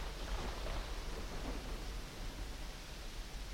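A steady wash of heavy rain from a raging thunderstorm, with a low rumbling undertone, continuous and fairly loud throughout with no voices.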